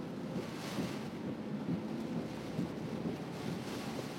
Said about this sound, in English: And raining a lot.